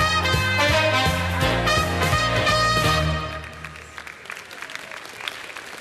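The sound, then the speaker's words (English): Music with a steady bass line plays for about three seconds, then gives way to an audience clapping, a dense patter of applause that slowly thins and softens. “Don't clap at that.”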